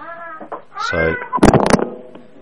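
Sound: cat meowing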